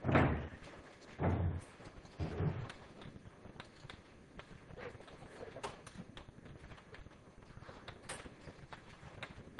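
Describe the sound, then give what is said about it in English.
A door bangs shut with a few heavy thuds in the first seconds, followed by a steady rumble of background clatter and scattered faint knocks. “Actually, can someone just shut the door? There's a bit of a noise.”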